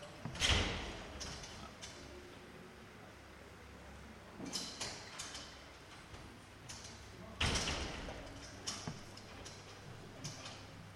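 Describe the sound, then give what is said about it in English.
A door is pulled shut, with a couple of sliding rattles and solid thuds spread over several seconds against a low, steady background hum. “Okay, let's just close one of these doors first.”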